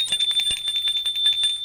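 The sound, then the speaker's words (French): A visitor rings the doorbell of an apartment on the third floor of a small 19th-century style apartment building: a bright, sustained metallic ring with a rapid rattling clatter for under two seconds, fairly loud, with no voices. “Arrivé au 3e étage, il sonne.”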